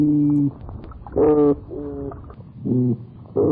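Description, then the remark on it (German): Toadfish calls sound like a foghorn: a series of about five short, low, buzzy hoots, each under half a second, rising and falling in loudness with brief gaps between them, and no talking. “Die Geräusche vom Krötenfisch erinnern eher an ein Nebelhorn.”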